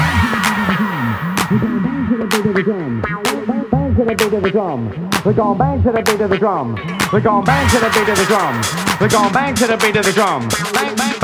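A dance music track, released in 2011 on the All Star Music label, plays loud, with a steady pounding beat of sharp percussive hits and a sampled, swooping vocal line running continuously over it.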